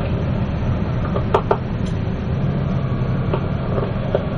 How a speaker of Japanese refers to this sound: まもなく鉄橋を通ります。放送を控えさせていただきます。